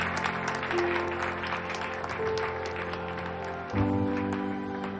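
A crowd claps steadily throughout, a dense wash of many hands at moderate volume, with low sustained tones humming faintly underneath and no one speaking.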